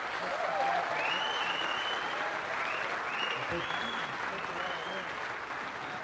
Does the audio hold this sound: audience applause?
yes